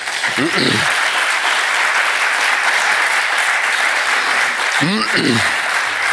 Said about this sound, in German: Ein Applaus darf man nicht abwürgen.